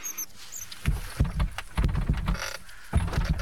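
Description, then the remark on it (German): A door handle is jiggled and rattled against a locked door, producing a run of uneven metallic clunks and clatters over a few seconds, with no voices. “Ob die Tür abgeschlossen ist? Mal sehen.”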